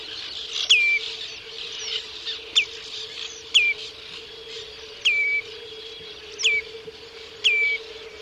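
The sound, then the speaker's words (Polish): A common redshank repeats its clear, melodious, flute-like two-note contact call about six times at irregular intervals, each a sharp, accented first syllable sliding into a sustained whistle, over a steady low background hum. “Jest on melodyjny, dwusylabowy, z wyraźnym akcentem na pierwszą sylabę.”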